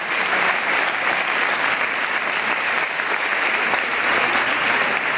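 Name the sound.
audience applause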